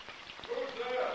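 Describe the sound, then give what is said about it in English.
Below deck on a ship, water runs from a spigot in an unlocked iron box into a bowl held under it, a steady splashing stream whose pitch starts to rise as the bowl fills, continuous for the whole moment. “Below deck, Mags unlocks an iron box covering a water spigot and holds a bowl under it.”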